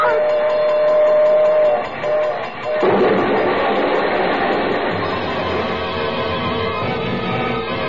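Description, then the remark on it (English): A train rushes past a railroad crossing, a loud, steady roar of rumbling wheels with a droning tonal whine, surging louder after a brief dip. “We're coming to the crossing. It's There's quiet a train.”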